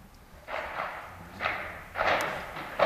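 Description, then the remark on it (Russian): Howitzer shells strike the old airport terminal in quick succession, three or four muffled, rumbling blasts spaced irregularly over a few seconds, faint, with no voices. “Наши гаубицы поработали по старому терминалу.”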